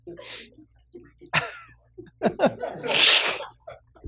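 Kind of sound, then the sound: human body sound, sneeze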